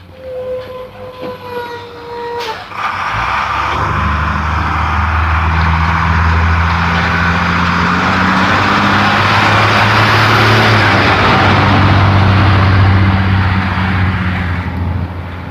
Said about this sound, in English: Bus heading over to pick up that kid.